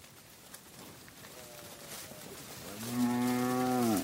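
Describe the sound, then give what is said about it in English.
Cattle low in the open, a faint moo followed by a louder, drawn-out bellow that swells and then stops, over a steady background hiss. “I eventually bargained my way onto the cattle trails, moving another man's investment bit by bit across the plains.”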